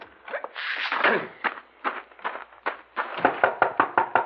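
Someone knocks on the door of a cafe's back room in Mountain Rock with a series of firm raps, spaced out at first and then coming faster and more insistent, with no voices.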